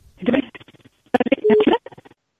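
A telephone line connecting a listener's call into a radio broadcast: thin, band-limited crackling bursts and a short steady tone, like a call being patched through, clear.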